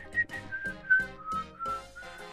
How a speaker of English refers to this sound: Have you heard that? No. It's yeah, you have. It starts with whistling.